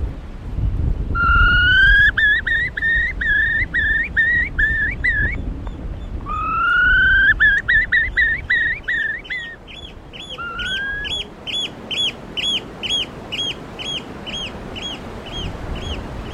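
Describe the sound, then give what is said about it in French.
A person imitates a female bird's courtship call, with bursts of rapid, rising chirpy notes followed by a steady run of quicker, higher peeps. Fairly loud, with no talking. “Il s'est ressaisi, mais même si je lui ai fait un petit chant de femelle amoureuse, ça marche pas.”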